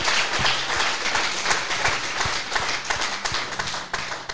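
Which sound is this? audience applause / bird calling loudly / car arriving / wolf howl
audience applause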